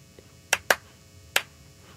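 Three sharp hand claps, made clapping along to a looped chromatic musical part: two in quick succession, then a third after a short pause, each crisp and bright over a faint, low background hum with no talking.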